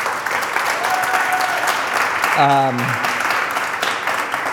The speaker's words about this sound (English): There are so many people here that come, the back of house, as we would call them in like the entertainment industry. I just want to take a second actually to give a big round of applause for all the people that make this happen on Sunday.